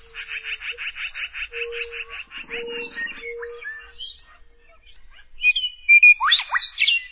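A chorus of spring peeper frogs singing for mates in spring: rapid, repeated high-pitched peeps over a steady lower tone, thinning out midway, then returning as a few loud, sharp, rising chirps near the end.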